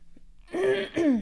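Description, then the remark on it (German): Two quick, raspy coughs in close succession, the second slightly sharper, with no talking around them. “Tut mir leid, dass ich direkt am Ende husten musste.”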